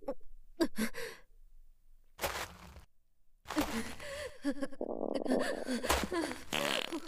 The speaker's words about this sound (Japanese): おなら止まらない。下品な音立てておならしちゃってる。